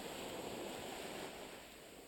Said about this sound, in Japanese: 優しい月の光を浴びながら足の裏の砂を波がさらっていく感触を楽しむ、これはとても贅沢な体験なのではないでしょうか。ええ、島でのあの暖かな時間を思い出します。では返していく波、